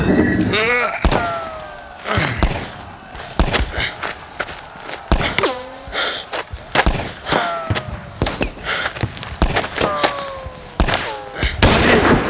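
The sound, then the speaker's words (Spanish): Repeated sharp bangs and heavy thuds burst out irregularly, gunfire and bomb explosions in a dramatized battle as Pípila advances to the door, with loud impacts scattered throughout and voices shouting in between. “¡Ojo, Pípila, con las balas y las bombas!”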